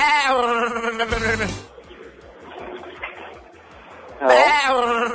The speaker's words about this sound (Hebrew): איך אתה מצמיד פרסומת לעז, קול של עז מייללת? למה? עז מייללת, אתה נראה לי יכול לעשות קדם לעז המייללת פה, כי אתה בשטח.